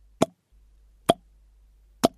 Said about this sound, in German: War da irgendwas undicht? Chloe kam oft nach hier unten, wenngleich widerwillig, und hatte dabei noch nie Wasser gehört.